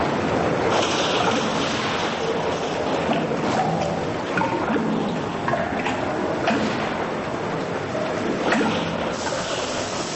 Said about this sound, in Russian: И под микроскопом страшно, чудовищные капли врезаются в воду и взрываются.